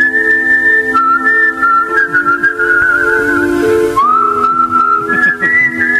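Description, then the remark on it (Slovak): A person whistles a familiar song melody, a steady, clear high-pitched tune with smoothly gliding notes, played loudly and alone without any talking. “A ja som sám prekvapený, že pesničky, ktoré si pískate najčastejšie, že sa tam objavilo to SS.”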